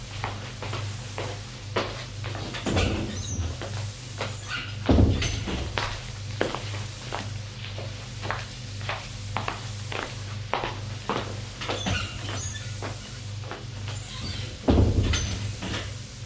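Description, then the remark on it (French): A woman tidying up a bedroom: scattered knocks, thuds and shuffling footsteps, with cupboards or drawers opening and closing and a couple of heavier bumps, with a low steady hum underneath. “Puis, elle retourne à la chambre pour faire un peu de rangement.”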